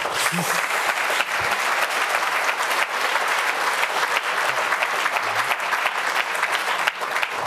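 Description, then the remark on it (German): Sustained audience applause, dense and steady clapping from a crowd, continuing loudly for several seconds without any talking over it. “Also, Chips müssen an der Kasse beim Kauf entfernt werden. Applaus!”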